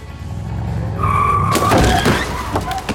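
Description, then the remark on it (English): A car that had stopped at a street crossing rumbles and revs up as it accelerates, its tires letting out a high, sustained squeal, followed by a couple of sharp, loud bangs and clatter. “As I was halfway across the road, the driver of the car that had stopped pulled out his phone. Not paying attention, he began to accelerate.”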